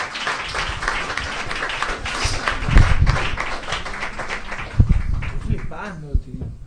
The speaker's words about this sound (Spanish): Aplauso, por favor.